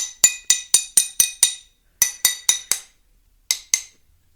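Sharp, bright glassy taps sound in three quick runs of six, four and two, each click ringing briefly as someone taps along freshly cut, scored glass to break it. No one speaks.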